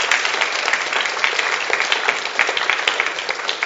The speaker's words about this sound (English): Will you give him a big round of applause in case he's watching?